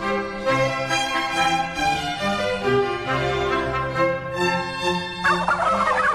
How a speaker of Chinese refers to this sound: 到了中午，这群火鸡果然就这样叫着，然后往回家的方向走去。